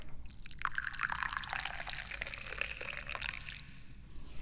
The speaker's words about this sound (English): So we're going to pour a little bit of tea here. And I bet you're wondering what kind of tea we're drinking today.